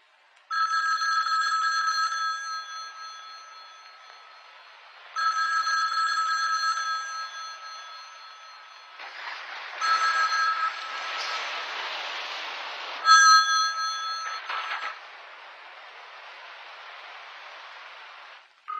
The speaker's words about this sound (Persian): خدا گوشی رو وردار.